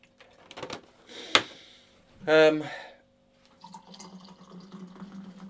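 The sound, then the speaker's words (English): A few clinks of a cup, then a short burst of coffee pouring into the cup with a rising, filling tone, followed by a softer trickle and faint background murmur, moderately loud. “Let me just pour out this tea. The coffee even.”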